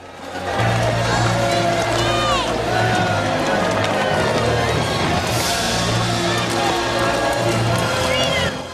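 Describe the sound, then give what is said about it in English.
A dense crowd lining a procession route up a hill murmurs and chatters steadily throughout, many overlapping voices with no clear words, over a sustained low droning tone and occasional faint clopping. “Crowds line the route up the hill.”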